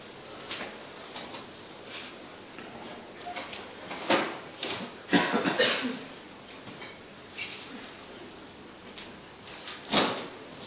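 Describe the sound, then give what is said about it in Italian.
A drawer slides open with a few knocks and a burst of rummaging as someone looks for a microphone inside, then things settle before a final sharp clunk near the end. “il microfono dovrebbe essere lì, Marco, nel cassetto”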